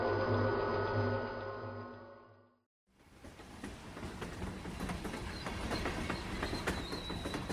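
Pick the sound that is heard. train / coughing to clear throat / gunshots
train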